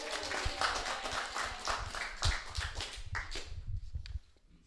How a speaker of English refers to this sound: Happy 40th, Western Union. Hip, hip, hooray. Clap and cheers.